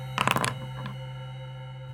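A digital dice roll sound effect: a quick burst of bright, rattling electronic clicks lasting under half a second, then a faint trailing tick over a steady low hum.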